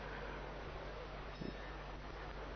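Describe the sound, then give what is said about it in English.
A steady, low hiss of nearby ocean surf, a constant wash with no distinct breaking waves, faint and unbroken throughout, with one soft brief thump midway and no voices. “Right beside us, we hear the ocean.”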